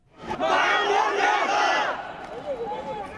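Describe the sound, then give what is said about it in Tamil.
A crowd of protesters, relatives of passengers on the missing Malaysian plane, shouts together outside the Malaysian embassy in Beijing in loud, overlapping voices, a sustained roar of raised cries that fades into quieter scattered shouting after a couple of seconds. “காணாமல் போன மலேசிய விமானத்தில் பயணித்தவர்களின் உறவினர்கள் பெய்ஜிங்கில் உள்ள மலேசிய தூதரகம் முன்பாக ஆர்ப்பாட்டம் நடத்தியுள்ளனர்.”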